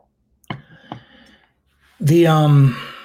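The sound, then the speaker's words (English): A quiet sip of coffee: two soft wet clicks of lips on a cup, a brief pause, then a loud, drawn-out satisfied vocal 'ahh' with a sliding pitch. “So I'm going to take a sip of coffee.”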